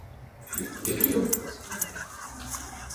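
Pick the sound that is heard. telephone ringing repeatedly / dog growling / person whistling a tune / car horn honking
dog growling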